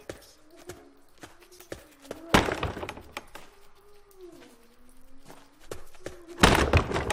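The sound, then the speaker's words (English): Someone repeatedly smashes into a heavy cell door in a dungeon: a steady run of dull thuds, broken by two louder, harsher crashes, with a low droning tone underneath. “And you just smash into it.”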